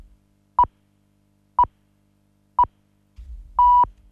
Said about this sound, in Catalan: Ara mateix hem sentit els senyals horaris, que marquen 8:45.